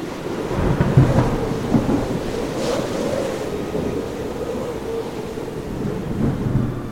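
A steady, loud roar of a storm at sea, with deep rolling thunder rumbling throughout and a wash of rain or surf-like noise over it, continuous for the whole stretch with no voices.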